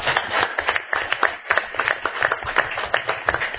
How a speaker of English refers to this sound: I want to thank all the teachers that are here, and I think we should clap for them. They did a great job.